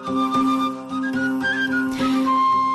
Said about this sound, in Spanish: Es la música, así suena, Villanuey con salterio y chiflo